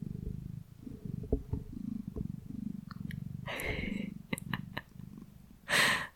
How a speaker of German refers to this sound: Vielleicht hört ihr jetzt ein bisschen beruhigendes Katzenbrummen.